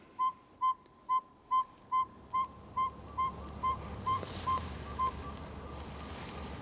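A saw-whet owl gives its territorial call at dusk, a steady series of about a dozen high, hollow toots at an even, insistent pace, fading gradually into rising background noise.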